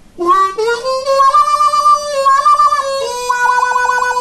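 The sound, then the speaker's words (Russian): A harmonica demonstrates the hand tremolo effect, sustained reedy notes with the hand flapping rapidly, the tone pulsing and opening and closing in a quacking, wah-like flutter across two held chords; no voices. “И кроме вот этих отдельных кваков еще используется как бы такое квакающее тремоло, по-моему, называется, или вибрато, не знаю, по-моему, тремоло.”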